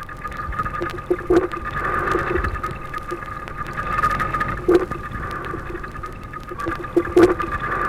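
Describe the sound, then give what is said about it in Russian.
Short, low grunting pulses from a rockling fish recorded underwater in an aquarium, a few scattered bursts over a steady watery hiss and hum, moderately loud with no voices. “Морской налим издает урчание.”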